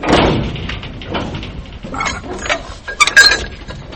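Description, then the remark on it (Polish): A hand-cranked railway turntable, a huge platform where large steam locomotives were turned, slowly rotates as a man strains at its double crank, giving off irregular metallic clanks, knocks and grinding, with a few short high-pitched squeals near the end. There is no talking. “mocując się z podwójną korbą, wytęża wszystkie siły, a gigantyczna maszyna powoli się obraca.”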